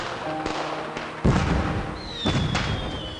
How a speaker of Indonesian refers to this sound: Cahaya kembang api menyinari kami di atas kincir angin ini. Gemuruhnya seakan memecahkan dingin malam.